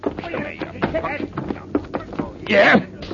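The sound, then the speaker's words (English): A fist punch lands on a man with a loud, sharp thump near the end, following a stretch of scuffling, grunting and muffled voices. “Only I shouldn't have hit this guy so hard.”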